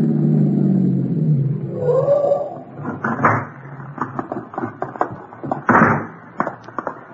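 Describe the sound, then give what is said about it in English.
A car engine rumbles and winds down to a stop at about 1:30 at night, followed by a series of clicks and clunks and then a solid door slam. “Better stop and leave the car here.”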